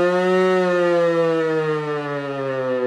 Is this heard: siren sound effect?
yes